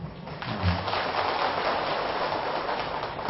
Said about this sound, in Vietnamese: Thì trả lời bằng miệng thì có nhiều người ngại, nhưng một tràng vỗ tay thì cho thấy là phần lớn chúng ta hiểu được, vì câu chữ của bài thơ này nó rất là đơn giản.